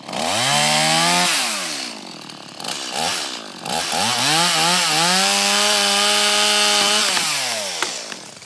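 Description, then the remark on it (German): A chainsaw roars while felling a tree, its engine whining up and down in pitch as it bogs into the wood and revs again, loud and continuous with no voices. “Zuerst wird der Baum gefällt.”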